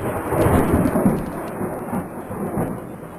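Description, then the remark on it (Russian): The first raindrops of a storm begin to fall on the ground under a deep, rolling thunder rumble, a steady and fairly loud stormy wash that lasts the whole time with no voices. “Первые капли дождя упали на землю”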